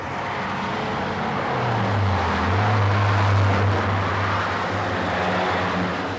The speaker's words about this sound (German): Wir verstehen uns ja jetzt kaum und es ist noch nicht mal Hochbetrieb jetzt. Es ist ja nur stadteinwärts im Moment der Großverkehr.